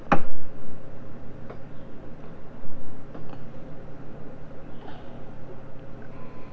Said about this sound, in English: Oh, there goes the clock. This is a clock. There's the clock.